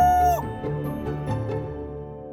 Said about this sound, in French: Et le coq qui volait au-dessus d'eux. Cocorico!